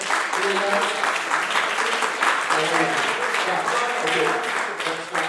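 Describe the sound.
A church audience claps steadily in praise of God, a dense crowd of hands, loud, with voices calling out and murmuring beneath the applause throughout.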